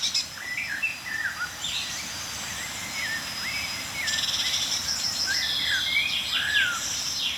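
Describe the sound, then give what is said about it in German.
Blackbird, chaffinch and tit calls overlap in a lively outdoor chorus, with quick chirps and trills that grow denser halfway through, over a steady high insect-like hiss. Nobody speaks. “Und Amsel, Buchfink, Meisenrufer.”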